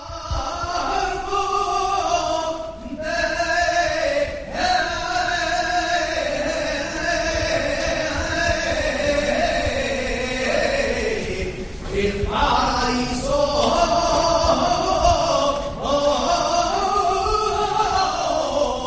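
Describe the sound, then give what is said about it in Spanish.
A saeta sung on Holy Wednesday in the Imperial church of San Matías: one loud, impassioned solo voice holding long, wavering, ornamented notes, pausing briefly for breath a couple of times before soaring on. “Vámonos hasta la Imperial de San Matías, porque esa saeta que suena de fondo llega desde allí.”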